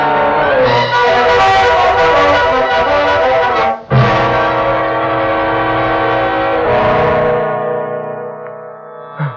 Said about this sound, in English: Who was that? That's your doorbell